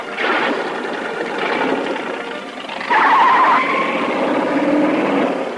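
A sports car engine roars, steady and loud, then revs up sharply partway through with a rising whine as the car drives on.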